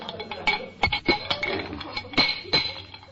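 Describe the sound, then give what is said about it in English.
A wrench tightens loose metal feeder pipes, making a quick, irregular series of bright metallic clinks and scraping taps, moderately loud, with no voices. “Oh, here's a wrench. We'll tighten them up.”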